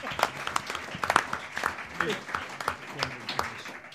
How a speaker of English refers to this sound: Give him a round of applause for standing up being counted.